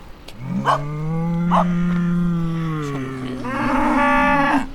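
A cow moos in a long, drawn-out low bellow, followed by a second rising moo, loud, on a farm with green pastures where cows and pigs stand, with faint outdoor background and no talking.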